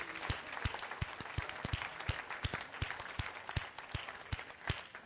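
An audience gives a warm clap offering during a morning service, a dense wash of many hands clapping with some strong, steady claps standing out, sustained throughout without talk.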